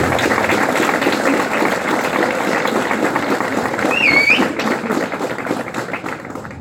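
A crowd applauds the children for their work on a project, with dense, loud clapping throughout, joined briefly by a short whistle midway, before the clapping begins to thin out toward the end.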